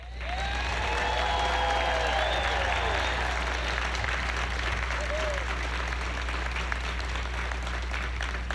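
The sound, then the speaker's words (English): A large audience applauds steadily and loudly for several seconds at an honoring event, for the family members of Katherine Johnson, a dense wash of clapping with some cheers and whistles rising early on, then settling into sustained applause. “I want to start by thanking the families of, and I'd like you to give a big round of applause for each of these members I'm about to mention, the family members of Katherine Johnson.”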